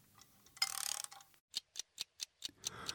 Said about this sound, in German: Ich werde mich jetzt auch mal zur Ruhe begeben. Will ja schließlich nicht verschlafen. Zur Sicherheit stelle ich noch meinen Rasselwecker.